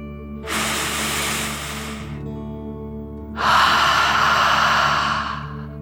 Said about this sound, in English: Now let's take another deep dragon breath, in and out.